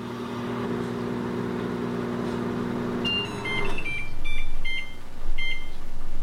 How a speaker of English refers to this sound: I'm 16, and I make some bagel bites in the microwave. My love for the delicious, savory kind of fake bagel pizzas, and the microwave singing to me, telling me that it's done.